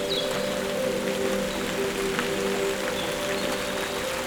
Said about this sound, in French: Et la pluie vient de forcir.